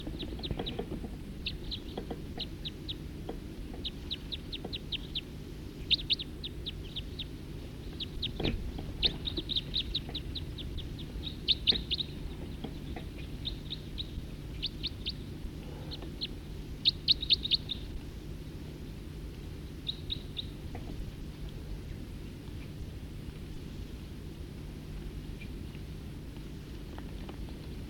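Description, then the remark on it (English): Many birds chirp from a tree in quick, high-pitched bursts, short clusters of tweets overlapping and repeating throughout, over a steady low background rumble, with no voices. “There's really quite a few birds in this tree right here now.”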